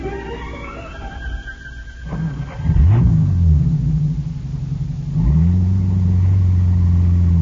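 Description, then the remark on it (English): A car engine idles with a low rumble, then revs up twice, its pitch sweeping upward and settling into a louder, steady drone. No voices are heard. “Greg, Ned, and I sat in back of the car.”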